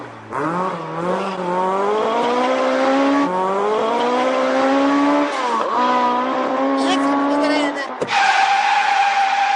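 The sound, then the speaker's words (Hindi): A car driven fast on an urgent trip toward India Gate via Nizamuddin: the engine roars loudly, climbing in pitch through several gear shifts while tires screech and skid, ending in a sharp burst of squealing. “जरा मैं गाड़ी चला रहा हूँ यार, काम जरूरी है, आपको मैं कह चुका हूँ ना, बहुत अर्जेंट काम से निकला हुआ मैं इतनी तेज कभी नहीं चलाता।”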